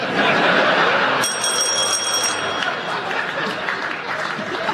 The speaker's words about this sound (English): So, he paused because the audience applauded.